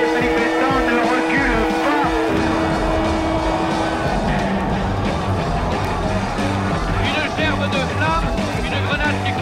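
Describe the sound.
Gendarmerie and CRS police vehicles charge through a chaotic street in the Latin Quarter, spraying water from fire hoses; engines roar, rev and strain over a constant wash of crowd noise and voices, loud and unbroken throughout.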